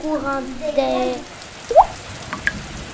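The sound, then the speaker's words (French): A voice hums briefly, then a steady patter of rain continues with a couple of sharper drops plinking out, like raindrops striking a windowpane. “Flic-floc, flic-floc, elle fait tic-tac, tic-tac, la petite goutte d'eau qui tombe sur le carreau.”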